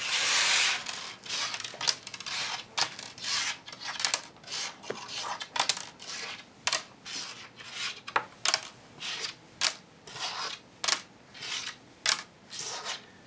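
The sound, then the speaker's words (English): Pennies flipped by hand, with both hands as fast as possible, click and clatter in a steady cadence, sharp metallic ticks repeating roughly every second after a brief rustling start, with no voices. “He's got a nice cadence going on over there. You can hear it. You can hear it clicking.”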